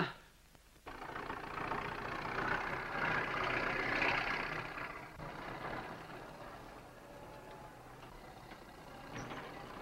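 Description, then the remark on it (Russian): A car engine kicks in after about a second and keeps running steadily with a broad, rumbling drone, fairly loud, swelling slightly mid-way before easing off. No one speaks. “Бобров, я, кажется, разучился водить машину.”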